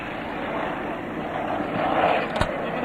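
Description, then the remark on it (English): A Hawker Sea Fury SB-11 piston-engine fighter plane roars past, coming in from the left, a dense, steady engine drone that swells slightly toward the end, with a brief sharp crackle near the close. “Coming in now from your left for his first time. Seafury, coming up. Hawker Seafury, SB-11.”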